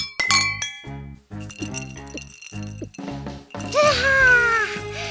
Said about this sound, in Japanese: みんな、グラスは持った？それじゃあ、アルバム収録お疲れ様。乾杯！ 乾杯！